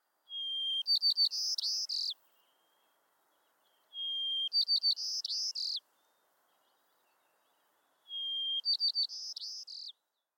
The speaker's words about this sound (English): So how is the song of a white-crowned sparrow different in the city? They sing generally at a higher frequency. They lop off the lower parts of their songs.